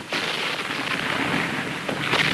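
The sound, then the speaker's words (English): Artillery shells burst near a battlefield trench, spraying debris 50 feet into the air, amid a dense, continuous roar of battle noise, with a few sharper blasts punching through near the start and toward the end. No voices are heard. “Shells hit closer, spraying debris 50 feet into the air.”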